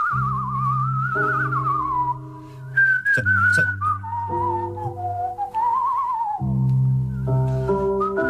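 Someone whistles a wavering, melodic tune with slight vibrato, close and clear, over steady sustained instrumental chords that change every few seconds; no one speaks.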